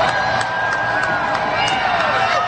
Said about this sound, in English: People cheering.